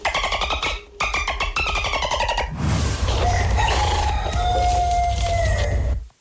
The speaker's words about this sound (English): Second clip, little bit weird. Yeah. A lot of farm animals going on there, isn't there?